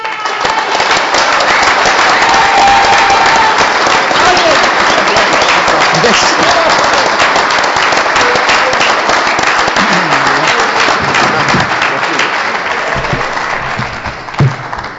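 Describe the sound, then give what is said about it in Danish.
Sustained audience applause, a dense, steady roar of many hands clapping at full volume throughout, tapering slightly near the end. “Det er fantastisk at få klapsalver her.”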